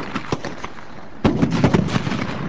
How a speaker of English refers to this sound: In this exercise, they throw special hand grenades designed for crowd control rather than combat. The grenades explode with a flash and a bang and are intended to scare people away rather than seriously wound them.